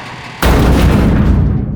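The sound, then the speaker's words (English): A single heavy crash of a creature slamming its body against a garage wall, shaking it, breaks a low, quiet hum, followed by a loud, deep booming rumble that lingers for over a second. No voices. “The wall of the garage shook with the force.”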